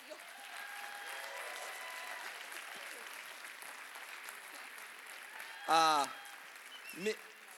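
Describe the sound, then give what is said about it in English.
Steady audience applause welcoming the Church of Celebration pastors' wives back to the stage, a dense wash of clapping that runs the whole way through, with a couple of loud cheering shouts rising over it near the end. “but we're very excited to welcome back to the stage the Church of Celebration pastors' wives, would you please give a warm round of applause for”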